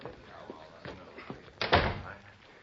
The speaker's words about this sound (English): Open your office door. Now go on in.